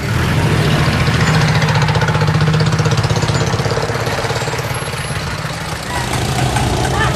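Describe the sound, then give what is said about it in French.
Loud, steady street traffic din in Bangladesh with rumbling, idling engines and a dense low growl, a constant roar that dips slightly before swelling again. “Le vacarme dans la rue, et on passe à une petite porte en fer forgé, et tout de suite est plus calme”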